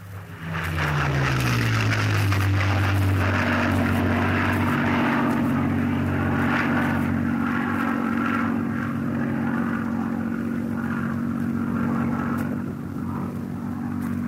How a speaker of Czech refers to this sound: To je něco zcela jiného. Je to stále ještě Spitfire, ale Spitfire z roku 1943. Tento zvuk jsme zachytili nedávno v Anglii, ve chvíli, kdy se dvě skvadrony Spitfireů chystaly ke startu k dennímu náletu na obsazenou Evropu.